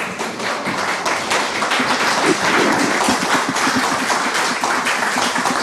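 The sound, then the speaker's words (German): Sustained applause from a live audience, a dense steady wash of many hands clapping at an even loudness for several seconds, with no voices over it. “Und das Schöne an dem Live-Podcast war natürlich auch, es gab etwas, was wir so sonst nicht bekommen. Applaus!”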